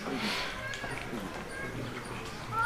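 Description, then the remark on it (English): Cows' hooves plod and clop at a steady walking pace as the cows pass, mixed with a noisy outdoor background and some talk. “You see these cows passing, very beautiful and auspicious vision to behold.”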